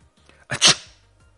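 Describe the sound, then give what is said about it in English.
A single sharp, loud sneeze bursts out, a quick breathy intake followed by an explosive hiss that trails off within a moment, with no talking around it. “Estornudar is to sneeze.”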